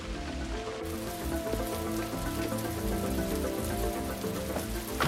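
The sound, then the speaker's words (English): Heavy rain pours down steadily, a dense, continuous hiss and patter of drops that holds at a constant loud level throughout, with a low tonal drone running underneath. “Boy, sure is raining cats and dogs.”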